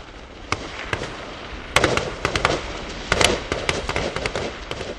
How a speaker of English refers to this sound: From the back of moving trucks, young soldiers in body armor shoot their M16s with live ammunition at the body-shaped targets that pop out of the ground.